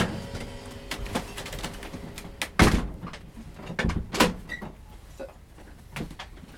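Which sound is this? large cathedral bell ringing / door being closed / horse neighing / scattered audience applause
door being closed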